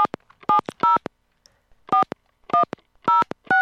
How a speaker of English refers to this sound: It's a live dialing of a phone, ladies and gentlemen.